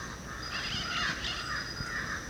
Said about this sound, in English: Black crow? Yeah. Here's a crow close to us and then black billed parrots overhead.